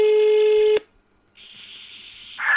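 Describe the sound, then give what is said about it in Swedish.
A loud, steady telephone tone cuts off abruptly, and after a short pause a dialing tone comes up, ending in a brighter, louder electronic burst as the call connects. No talking. “Men nu ringer vi.”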